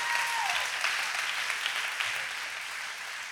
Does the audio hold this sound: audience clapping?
yes